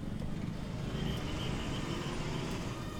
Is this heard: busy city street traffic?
yes